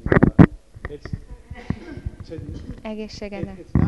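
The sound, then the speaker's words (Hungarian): A sudden, sharp sneeze bursts out at the very start, then a voice carries on talking for the rest of the moment. “Egészségedre.”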